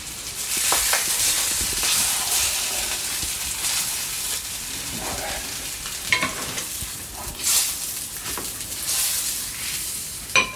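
Breaded sausage sizzles steadily in a hot pan, a dense crackling hiss that runs throughout, with occasional scraping and clicking as the pieces are stirred or turned. No one speaks.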